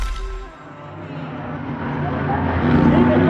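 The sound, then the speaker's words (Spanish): A car engine rumbles low and grows steadily louder as the car driven by Calimán pushes slowly forward through a crowd, with a dense murmur of crowd voices surrounding it. “El auto conducido por Calimán se abre paso entre la muchedumbre.”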